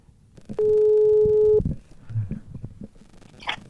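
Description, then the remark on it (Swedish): A single steady ringback tone sounds for about a second, loud, as a phone call is placed to a woman. Faint bumps and rustling follow in the quiet afterward. “Så nu ringer jag henne.”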